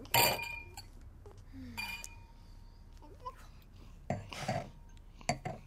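glasses clinking

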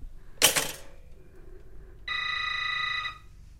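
telephone ringing

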